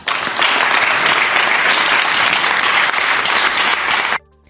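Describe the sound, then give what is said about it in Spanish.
Sustained, dense applause from many people at a council plenary session, given during the item on a record of honours and distinctions, loud and steady throughout, with no voices, before cutting off abruptly after about four seconds. “Aplausos y posteriormente lágrimas.”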